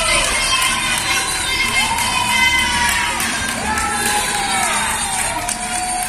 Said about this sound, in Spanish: A los carteros, que reparten las cartas, les están empezando a vitorear desde los balcones.